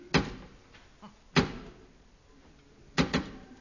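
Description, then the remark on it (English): Sharp knocks on a wooden door, spaced apart: a single rap, another after a pause, then a quick double knock, with nothing else sounding in between. “Three, two, one, and then two knocks.”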